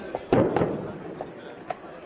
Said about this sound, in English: Some wept as their fellow Kurds just across the Syrian border were pounded by ISIS. They watched this truck-mounted artillery repeatedly fire into a village. The sound hits seconds later.